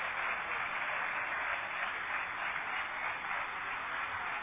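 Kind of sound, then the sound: crowd, audience applause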